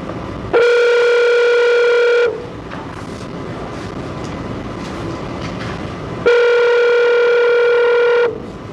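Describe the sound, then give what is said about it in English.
Two long, steady electronic tones on a telephone line, each about two seconds, separated by a pause of faint line hiss, the ringing pattern as the Arizona Board of Executive Clemency patches a phone call into a hearing. “We're trying to patch in a phone call”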